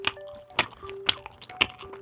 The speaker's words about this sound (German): Oh, oh, oh, oh, das höre ich aus 1000 Schmatzern raus. Das ist Grünkohl, in der Region Hannover auch Pinkel genannt.